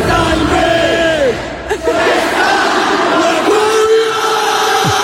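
A huge crowd roars and shouts in unison, many voices blending into a loud, sustained chant with rising and falling pitch, briefly dipping before surging again.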